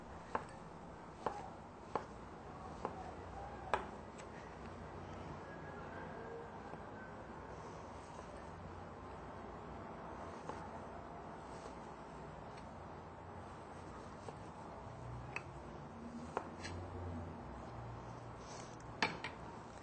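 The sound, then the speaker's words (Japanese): A knife dices 120 g of fully vegan soy ham into 1 to 1.5 cm cubes on a cutting board, giving sharp, irregular taps, sometimes in quick pairs and sometimes after long pauses, over a steady low hiss. “そしてそれが 1.5 センチぐらい、1センチから 1.5 センチぐらいですね、角切りにします。”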